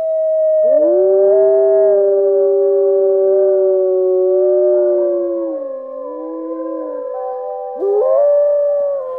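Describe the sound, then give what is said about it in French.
A chorus of wolves and dogs howling together, several long wavering voices overlapping and sliding in pitch, loud and sustained throughout with a fresh howl rising near the end. “On lui sacrifiait des chiens et des loups parce qu'ils hurlent à la lune, notamment les jours de pleine lune.”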